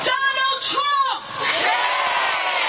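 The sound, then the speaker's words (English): A large crowd at a protest rally in New York City against family separations under U.S. immigration policy shouts and chants together in loud, overlapping voices, with rising whoops and yells, a dense outdoor din of many people under a blazing sun after a march across the Brooklyn Bridge. “This rally in New York City started with a march across the Brooklyn Bridge under the blazing sun.”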